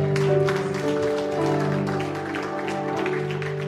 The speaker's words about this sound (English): Clap your hands for the word, God.